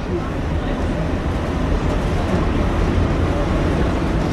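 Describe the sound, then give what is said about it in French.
A Paris metro train rumbles steadily along the rails after slowing to at most 20 km/h through the successive curves at Bastille. It makes a dense, continuous low roar that stays loud throughout, with faint squeals and clatter mixed in as it gradually picks up speed away from the curves. “Ah bien, vous voyez, on a passé à 20 km à l'heure maximum, toutes ces courbes successives de Bastille. Et on reprend progressivement de la vitesse avec l'éloignement des courbes.”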